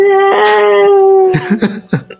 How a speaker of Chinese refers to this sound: 就听起来蛮像的，你知道吗？远远的有那个婴儿的哭声， 这是我们的背景音呢。